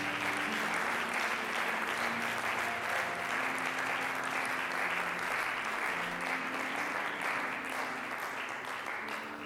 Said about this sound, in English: If you would give the Lord a hand clap of praise right now.